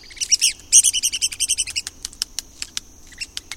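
woodpecker calls

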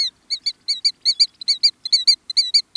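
killdeer calls

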